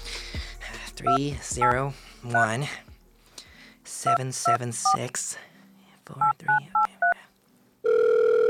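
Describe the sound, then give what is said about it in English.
Touch-tone keypad beeps as a phone number is dialed, about ten short tones in three quick groups, with a man muttering between and under them, ending on a steady electronic phone tone. “This motherfucker better pick up the goddamn phone this time.”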